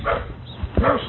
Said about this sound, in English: Ah, the dogs. Stirred up. Go away, pup.